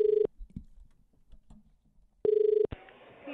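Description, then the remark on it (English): A telephone ringback tone purrs twice through the earpiece on a call from Australia to a vegan cafe in New York, separated by a quiet gap of about two seconds, then someone picks up and a voice begins speaking over the line. “So why don't we give them a call?”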